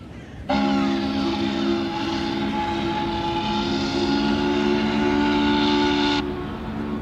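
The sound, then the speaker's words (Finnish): A train travelling on rails to Turku, Finland, on a journey of nearly 12 hours, sounds a long, steady whistle for about six seconds over a low rumbling background, then the whistle cuts off and the rumble continues. No one speaks. “Junamatka kestää lähes 12 tuntia ja Turussa odottaa seuraava kulkuväline.”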